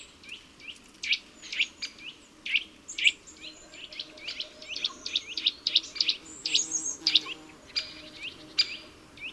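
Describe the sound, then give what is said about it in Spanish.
A Eurasian nuthatch, climbing head-first down a tree trunk, gives an insistent, rapid trill of high, sharp notes repeated in quick bursts, clear over a faint background hum. “con varias aves curiosas, como este trepador azul, que baja por el tronco boca abajo en una pose muy acrobática.”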